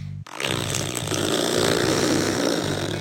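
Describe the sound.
A listener's vocal imitation of a red fox fart: a loud, sustained buzzing raspberry that starts abruptly and holds a rough, low, engine-like rattle for nearly three seconds.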